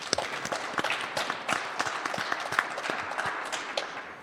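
An in-studio audience applauds the guests of the Most High Show steadily, dense overlapping claps forming a continuous bright wash with sharper individual claps popping out irregularly, sustained at fairly even loudness throughout.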